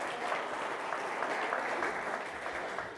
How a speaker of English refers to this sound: Should we give our children a round of applause? Wouldn't they do well?